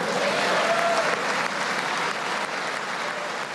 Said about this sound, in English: Republicans greeted his remarks with applause, cheers, and standing ovations.